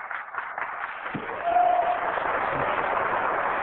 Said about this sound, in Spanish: Sea la gloria, a Dios sean los aplausos, porque Dios no comparte su gloria con ningún músico, con ningún predicador y con ningún siervo de Dios. A Él solamente sea la gloria. Un aplauso a Jesucristo, nada más a Él.